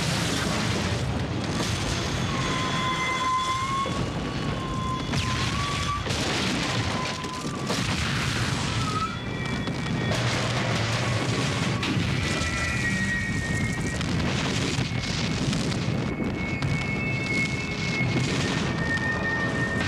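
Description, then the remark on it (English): The runaway train crash and explosion from the TV film Atomic Train, as the train reaches its destination: a loud, sustained rumbling roar of blasts and crashing debris, with high metallic screeches drifting over it, continuing for the whole stretch without any talking. “And for an even quicker snippet, here's the big moment of Atomic Train, when the runaway title vehicle finally reaches its destination.”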